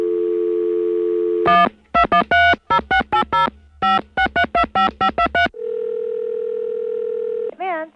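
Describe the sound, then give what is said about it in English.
A steady telephone dial tone hums after a call disconnects, gives way to a quick run of dialing beeps, then returns and holds before ending in a brief rising warble. Clear, with no voices. “I think we got disconnected there.”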